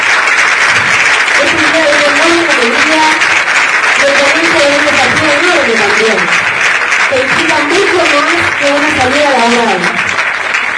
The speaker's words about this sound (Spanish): un espacio administrado, como les decía, por la Cooperativa de Trabajo y Empoderamiento Femenino Limitada, conformada por 6 mujeres de nuestra comunidad, a quienes aplaudimos y damos la bienvenida a este maravilloso lugar también.